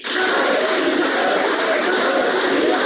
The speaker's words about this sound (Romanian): Alexandru Andreev, consilier al Ambasadei Federației Ruse la Chișinău, aplaudat intens la festivitate.